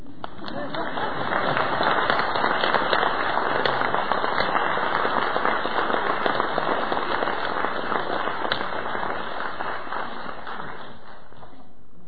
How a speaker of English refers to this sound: Okay, so that is the talk so far. Now we have time for questions and answers and comments and complaints. Okay, if you want to clap, you can.